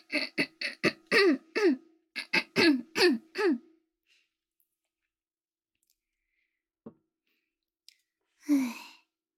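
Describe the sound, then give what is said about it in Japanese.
Loud throat clearing in two quick runs of rasping bursts, followed by quiet with a couple of faint clicks and a final breathy exhale. “あ、ちょっとごめん、咳ばらし。”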